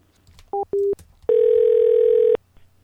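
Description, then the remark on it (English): A telephone dial tone after a hang-up: two short electronic beeps, then a loud, steady, unwavering tone holding for about a second before cutting off, with no voices. “Did he hang up?”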